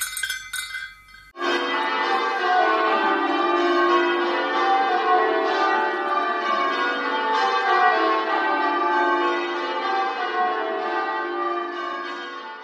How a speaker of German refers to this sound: Ich finde den Klang von Glocken herrlich, mächtig, bedeutungsvoll. Ich bin in einem kleinen Dorf aufgewachsen und solange ich keine eigene Armbanduhr hatte, musste ich nach Hause kommen, wenn es läutet.